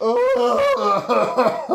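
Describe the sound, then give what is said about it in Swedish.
A voice imitates an eerie, unearthly cough, a strained, wavering vocal sound with choppy breaths that lasts under two seconds. “Och så en hosta.”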